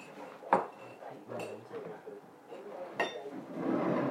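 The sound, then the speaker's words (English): Ceramic cups clink sharply a couple of times amid soft handling noises, and a steady, hissing pour of tea builds toward the end. “And let's pour our tea next.”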